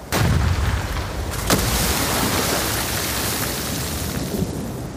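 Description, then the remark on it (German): A harpoon cannon on a small boat fires at a whale with a sudden loud boom, followed by a steady roar of churning, foaming water and a second sharp crack partway through. No voices. “Dann gibt es einen Knall und schäumendes Wasser.”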